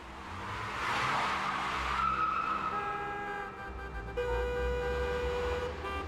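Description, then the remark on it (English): A car roars past at speed as its tires squeal and skid in long, high-pitched screeches over a loud, rumbling engine, with no voices. “He explains this using the analogy of a car that's speeding out of control.”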